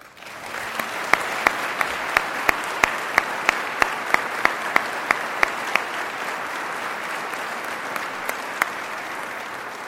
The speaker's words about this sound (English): And finally, please give another round of applause for our Founders Award recipient, Walter Scott. Without him, there would be no Addies USA.